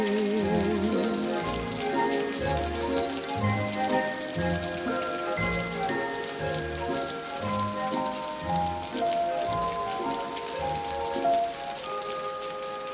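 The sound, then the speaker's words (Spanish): Steady rain patters on a hard surface throughout, mixed with sustained orchestral music and soft rhythmic low thumps, even in loudness, with no talking. “cantando y bailando bajo la lluvia.”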